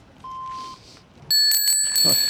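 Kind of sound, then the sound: signal or alarm, bicycle bell ringing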